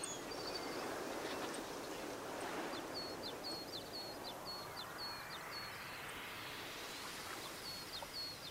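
Ducks swimming on a lake in the morning call in a quick series of short, high notes, fairly faint, above a steady rush of flowing water that fills the whole scene.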